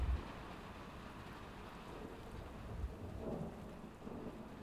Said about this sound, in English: You weren't scared of the thunder at all, were you?